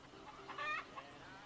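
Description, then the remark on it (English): Rhode Island Red chickens cluck a few times in quick succession, short bright calls over a faint, steady background hiss. “Got them nice, long-legged, Rhode Island Red chickens.”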